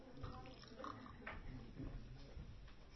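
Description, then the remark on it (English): A voice imitates the way Prabhupada drank water, making continuous wet gurgling and slurping mouth noises with low, snorting gulps, fairly loud and steady for about three seconds. “For instance, the way Prabhupada drank water was like this.”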